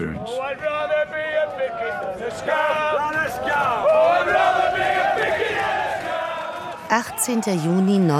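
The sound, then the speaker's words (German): A large crowd of striking union pickets besieging the Orgreave coking plant in South Yorkshire in June 1984 to stop lorries delivering coal, shouting and chanting together, loud and continuous, many voices rising in a dense roar with sharp yells breaking through near the end. “Pickets, Streikposten, belagern die Kokerei in Orgreave in South Yorkshire.”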